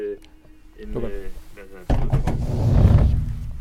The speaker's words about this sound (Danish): det vil sige, hvis ikke der er nogen åbninger ud, jamen, så kommer der ikke nogen radiobølger ind, og det gælder også den radio, vi kan høre på her i baggrunden. Ja, så lad os lige prøve at slukke radioen, får vi lukket døren.